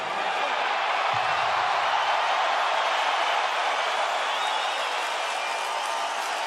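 A large arena crowd in Las Vegas, Nevada, boos referee Robert Byrd in the ring at the Mayweather–McGregor fight, in a steady, sustained roar, a dense wash of voices that stays loud and even for several seconds with no clear speech above it.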